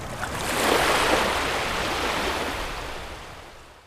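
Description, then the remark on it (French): Sea waves surge against the outer stone wall of the Château du Taureau in one broad, hissing wash that swells quickly, then slowly drains away. It is steady, with no voices. “Aujourd'hui, elles ont été bouchées, mais elles donnaient sur la paroi extérieure du château, hein, la mer qui ne manquait pas, par ces vagues, de nettoyer le château du Taureau.”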